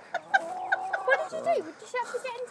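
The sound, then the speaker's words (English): A hen clucks while being held, in a quick, uneven run of short throaty clucks, with a longer warbling squawk in the middle, fairly quiet and with no one talking over it. “Am I holding her right? Because I don't want to hurt her. Yeah, you are pretty much. I mean, pretty much. Yeah, you are. You know, you're just crushing her wing.”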